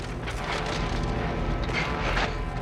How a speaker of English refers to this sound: The roof suddenly crumples like paper, and they're thrown around.